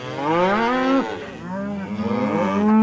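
A cow moos loudly, a long drawn-out low bellow that dips and rises again over about three seconds, with no other sounds around it.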